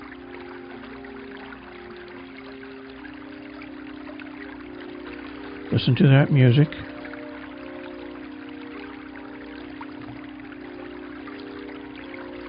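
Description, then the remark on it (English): A small mountain stream in Noldy Forest with a little waterfall about a foot high rushes and trickles in a steady, even wash of water noise, with a brief spoken phrase partway through. “It's a mountain stream.”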